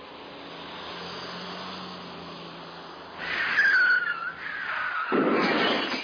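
Three cars approach along a road over a steady rushing background, their engine and tyre noise swelling loudly partway through and surging again near the end, with a brief high squeal.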